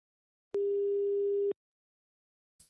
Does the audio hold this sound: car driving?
no